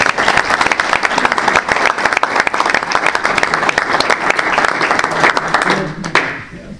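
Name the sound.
round of applause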